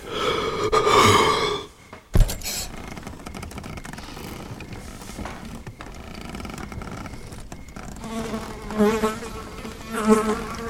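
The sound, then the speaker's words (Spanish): A housefly buzzes, its drone rising and fading as it circles, with a sharp tap partway through and a few louder swells near the end. “Es curioso que el silencio sea como la hoja de papel en blanco en donde se perciba y deposite el zumbido de una mosca.”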